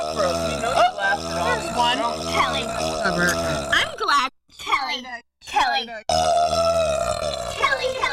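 Long, loud, drawn-out burps, a croaking belch rolling on for several seconds, breaking off briefly, then resuming in another extended burst, during the radio show Shut Up Weirdo.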